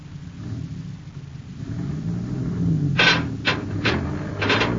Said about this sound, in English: You tell your driver to pull the truck straight ahead now. I think the Endurium beam will pull out